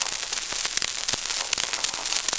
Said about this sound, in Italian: Alza 400 metri, fuoco a salve di plotone!